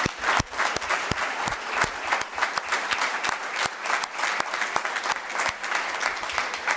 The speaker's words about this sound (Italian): Li ringraziamo anche per la loro presenza oggi e ringrazio i due rappresentanti della Consulta Giovani di Santa Giusta che hanno indossato i nostri bei costumi. Statevi in piedi così facciamo un applauso.